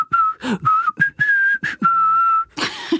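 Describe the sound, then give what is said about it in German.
A person whistles an imitation of a bottlenose dolphin signature whistle, the sequence of whistles that serves as one dolphin's name: a series of short, steady high tones and one longer held note, broken by breathy bursts, ending in a noisy rush. “Sie machen eine bestimmte Abfolge von Pfeiflauten und das ist dann der Name für einen bestimmten Delfin.”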